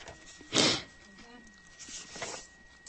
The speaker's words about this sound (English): Sorry for the sniffing. I'm not honking up lines. We have pollen once again in the Atlanta area, North Georgia Mountains. And with all the rain we've had this winter, it's pretty intense. So that's what that's all about.